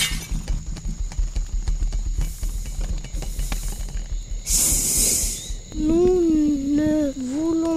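Rapid, steady thudding runs for several seconds as an elephant rushes off, then a loud, brief crash of breaking and shattering as it breaks the crown. Then a wavering, pitched tone sweeps up and down.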